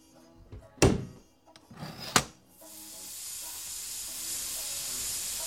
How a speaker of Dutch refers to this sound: Is het niet gevaarlijk, al die stoom? Ze zal toch niet stikken?